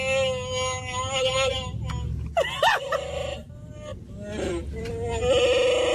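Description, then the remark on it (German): A Star Wars Chewbacca toy mask's electronic growling roar, worn by a middle-aged woman sitting in a car: loud, warbling bleat-like howls that rise and fall in pitch, repeating in long bursts with a brief squealing break partway through. “That's not me making that noise, it's the mask.”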